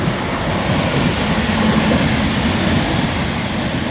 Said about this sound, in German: Ein Intercity fährt vorbei.